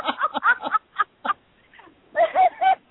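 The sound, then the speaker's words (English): Seagulls call in a quick run of harsh, squawking cries: a burst of several calls, a brief lull, then another loud cluster, with no talking. “Me and the seagulls. We're rip-roaring time.”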